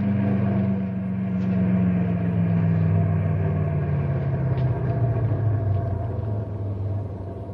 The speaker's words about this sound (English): Look at the size of those trucks, will you? Yeah, they're big ones, all right. Six of them, too.